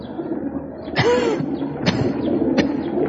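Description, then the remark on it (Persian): Pigeons flutter up in a few sharp wing bursts over a steady low background hum, with one soft, low cooing-like murmur in between. Nobody speaks. “کبوترا حالا میرن اون دور دورا پرواز کنن، شاید برسن به آسمون هفتم.”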